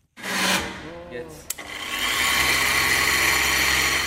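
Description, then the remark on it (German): A loud, hand-blender-like kitchen mixing machine whirs steadily in a small workshop hall lab in Dübendorf, Switzerland, its harsh, high-pitched motor drone building after a brief scrape and clatter and then running continuously, with a faint voice early on. “Sehr laut ist er. Wie ein Pürierstab, muss man sich das vorstellen.”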